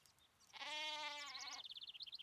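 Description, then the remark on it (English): A small lamb lets out a single quavering bleat, about a second long and fairly high-pitched, followed by a quick run of faint chirping bird calls. “Then there was a small crying sound.”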